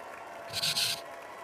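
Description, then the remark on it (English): A short burst of light applause from a crowd, a few scattered claps that swell and fade within half a second, fairly faint against a quiet background hiss. “And the crowd goes mild.”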